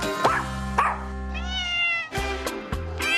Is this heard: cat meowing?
yes